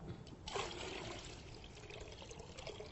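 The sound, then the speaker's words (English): Water is poured steadily off pure clay settled at the bottom of a vat, a continuous splashing rush that starts abruptly and keeps flowing for a few seconds, with no voices. “Pure clay on the bottom of a whole bunch of water, and he just pours off that water.”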